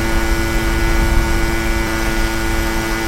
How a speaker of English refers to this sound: Now, this sound means you're close to the left or right side. It's a lawnmower.